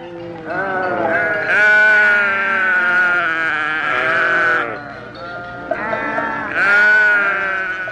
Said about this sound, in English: Sheep and lambs.